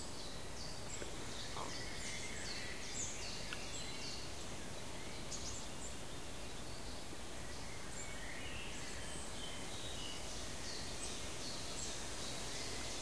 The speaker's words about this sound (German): Da ist der Zilpzalp jetzt.